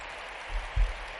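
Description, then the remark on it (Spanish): A crowd applauding the club's women's team, champions of their league for the second year running, with steady, dense clapping that fills the whole moment, fairly soft overall, with a couple of low thumps breaking through near the end. “Aplausos ahí a las féminas, sí señor.”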